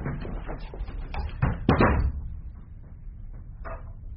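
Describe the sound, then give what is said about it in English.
A door swings shut with a solid thud and a brief rattle midway through as a man goes into an inner room, with soft shuffling and faint knocks around it. “That door leads only to an inner room.”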